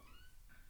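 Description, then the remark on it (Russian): A cat at the door asking to be let in gives a faint, high squeaky meow, then a second brief squeak, both soft against a low background rumble with no talking. “Да что пищишь, заходи.”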